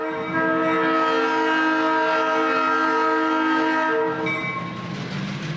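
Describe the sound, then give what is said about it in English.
A loud, sustained train horn blares steadily for several seconds at a train museum in Baltimore, Maryland, its rich chord of tones holding strong before easing slightly near the end, with no talking. “Our report from NPR's Nell Boyce begins at a train museum in Baltimore”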